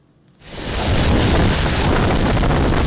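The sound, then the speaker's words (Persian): A sudden roar of violent tornado wind slams in after a moment of near silence, then holds as a loud, dense, buffeting rush across the microphone, with no voices. Recorded by a school's surveillance cameras in southern Mississippi near the Alabama border. “لحظه طوفان در نزدیکی مرز آلاباما در کامیره های نظارتی یک مکتب در جنوب میسیسیپی ثبت شده است.”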